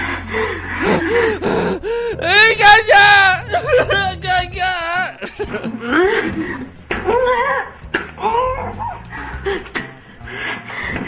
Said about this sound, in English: Why are these girls breathing like that? You're just spitting on each other.